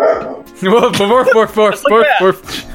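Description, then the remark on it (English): A human voice imitates a dog barking, giving about six quick, loud, voiced woofs in a rapid, even rhythm before trailing off. “Boof, boof, boof, boof, bark, bark.”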